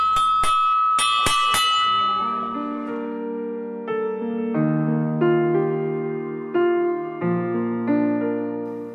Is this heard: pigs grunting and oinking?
no